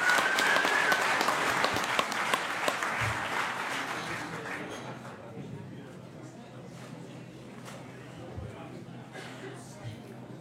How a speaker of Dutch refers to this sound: Al deze mensen zijn op dit moment officieel beëdigd en lid van de gemeenteraad van Oude IJsselstreek. Gefeliciteerd. U mag hierbij ook gaan zitten. En een warm applaus.